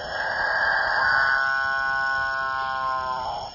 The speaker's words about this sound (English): apparently irresistible noise attracts the female capuchin birds, which jostle each other ruthlessly in the quest to get close to the studliest of the displaying males. That alpha male with the best singing technique will be the only one to mate.